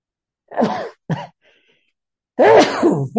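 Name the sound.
sneeze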